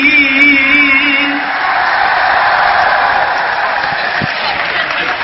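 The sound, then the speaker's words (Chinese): A large audience applauds loudly and steadily throughout, a dense wash of clapping, with a sustained voice-like cheer or whoop over it during the first second or so. The applause is for the Deyun She crosstalk (xiangsheng) performers led by Guo Degang, at the second show of a crosstalk special in Jinan. “谢谢亲爱的观众朋友，让我们大家再一次把热烈的掌声献给以郭德纲为带领的德云社的演员们，谢谢。”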